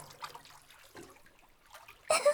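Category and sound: household object, water splashing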